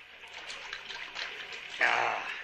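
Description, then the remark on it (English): Steady trickling water runs without pause, then swells into a louder, fuller splashing flow near the end as someone drinks from it. “Yeah, that water looks good. Have some.”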